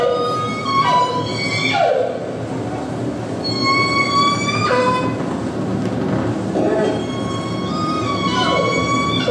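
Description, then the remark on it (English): Offshore whale vocalizations: a series of high, harmonic squealing calls, some sweeping upward and others gliding down, repeating every couple of seconds over a steady bed of rushing underwater noise. “And their vocalizations are somewhat distinct from the vocalizations we hear from resident whales.”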